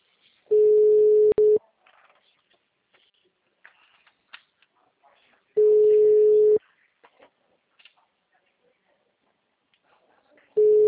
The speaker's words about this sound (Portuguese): Tá chamando.